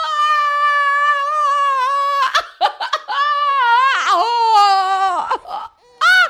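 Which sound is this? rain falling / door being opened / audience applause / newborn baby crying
newborn baby crying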